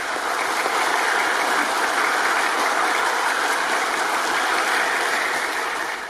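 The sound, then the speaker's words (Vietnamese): A large crowd of Buddhist followers at Thiên Quang pagoda claps steadily for about six seconds, a dense, even roar of overlapping hand claps that stays loud throughout and eases off slightly at the very end. No one speaks. “Nếu đồng ý, xin quý Phật tử cho một tràng pháo tay thật lớn nữa ạ.”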